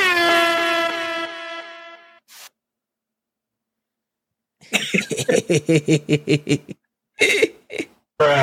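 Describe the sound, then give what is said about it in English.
A loud air horn blares in one sustained blast for about two seconds, then after a pause comes a quick rapid-fire series of short, punchy horn toots. “So we need some air horns or something for that work we just did.”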